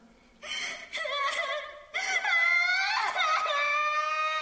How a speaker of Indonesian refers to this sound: suara tangisan Munsu di ruang operasi selalu terngiang di telinganya, bagaikan gelombang pasang surut